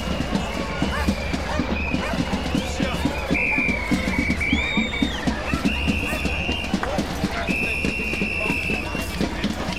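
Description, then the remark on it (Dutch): A small cart is driven up onto a bridge towards a gate with a steady clattering rumble, while intermittent high whistling tones sound over it and faint voices murmur in the background. “Het wagentje wordt de brug opgereden richting het hek.”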